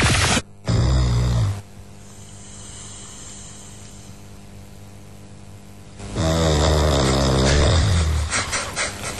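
Loud, rasping snoring, close up: one harsh snore, a few seconds of near-quiet breathing, then another long, rattling snore. No talking.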